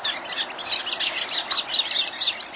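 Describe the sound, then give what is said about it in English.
A dense chorus of high, thin shorebird calls along a coastline chatters continuously, many birds piping and twittering at once with a steady, bright texture and no pauses. “The wistful signal of their voices down the long coastlines of the world make them, for me, the most affecting of wild creatures.”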